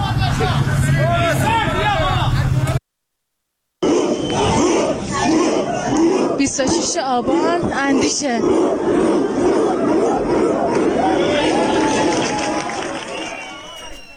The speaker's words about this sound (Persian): صدای تعدادی از مکانهایی رو که درش تجمع و اعتراض بوده رو شنیدیم.